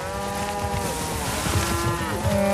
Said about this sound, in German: Und dann rennen die Kühe los, weil sie so einen Heißhunger haben auf dieses frische, leckere Gras.